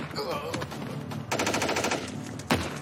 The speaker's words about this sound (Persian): داداش صدای شلیک میومد، دارن تیراندازی میکنن.